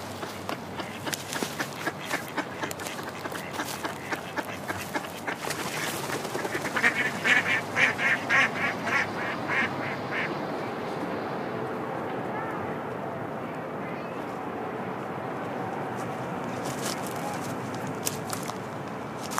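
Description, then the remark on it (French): A duck quacks in a rapid, rhythmic series of calls, loudest in a short burst partway through, then fading into a steady outdoor background with a few scattered calls later on. “Corbeau, canard.”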